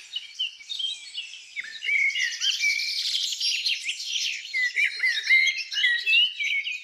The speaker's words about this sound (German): Um uns herum sind ungelogen 20 verschiedene Vogelstimmen zu hören, die sich wild übereinander legen. Und ich habe wirklich Mühe, die einzelnen Stimmen herauszufiltern.